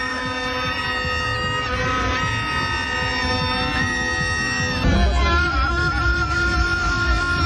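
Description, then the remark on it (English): Several vuvuzelas blare at once in a market in the Central Business District of Kumasi, around sunset, in a dense, droning chorus of buzzy tones that overlap without pause, staying loud throughout, with the pitches shifting and thickening partway through. “But an unusual sight in the market is a recent, unannounced and indiscriminate honking of vuvuzelas at the market.”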